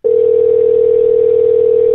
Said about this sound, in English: We'll actually dial him up right now on the old telephone. Most podcasts operator and radio shows don't let you hear the ringing when they're calling a guest, but we're cutting edge. We allow you to hear the ring.